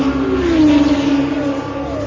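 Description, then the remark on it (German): A car engine roars steadily, its pitch sagging slightly and then holding, a loud continuous drone with no voices over it. “Ein aufheulendes Auto, das auf Kartätschen zu laufen scheint”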